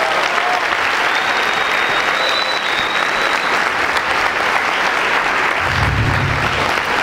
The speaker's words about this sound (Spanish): Les pido un fuerte aplauso a ellos.